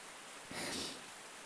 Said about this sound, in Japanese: 雨、強くなってきましたね。